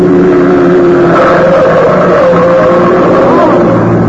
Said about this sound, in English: There's a car coming right through that red light.